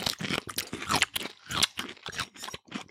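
Wet crunching of a whole Grillo's dill pickle being bitten and chewed, a rapid series of loud crisp crunches over about three seconds with no talking.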